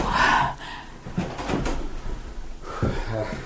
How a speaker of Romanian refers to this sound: Laura Wingfield, îți poruncesc să te duci, să deschizi ușa.